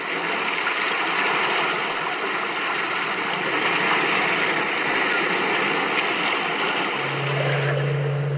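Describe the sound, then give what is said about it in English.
Steady, loud roar of sea waves churning and washing against rock in an echoing cave by the sea, with no speech; a low sustained hum joins the surf near the end. “Met in this cave by the restless sea to reveal the horror in man's mind.”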